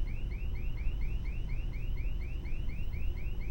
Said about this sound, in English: No one has ever set off the alarm before.